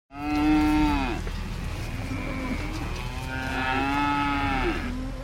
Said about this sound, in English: It's sunset on a small dairy farm on the outskirts of Phoenix, Arizona. Several dozen cows push their heads through metal bars to reach their dinner of alfalfa hay.